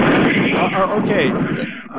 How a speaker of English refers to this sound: Well, we just heard... wait for that jet to go by.